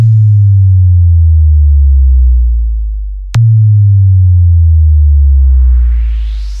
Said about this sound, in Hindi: आइए अब आपको सुनाते हैं अपने डीजे का तबाही मचाने वाला वाइब्रेट बेस।